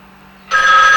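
A telephone suddenly starts ringing loudly, a bright, steady electronic trill that cuts in halfway through after near silence, with no voices.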